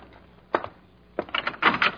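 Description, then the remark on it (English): A door is opened: a single sharp latch click, a short pause, then a burst of rattling, scraping knocks as it swings, fairly loud with no voices. “Well, if you're hearing things, go open it and see.”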